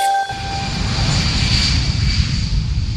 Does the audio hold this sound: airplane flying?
yes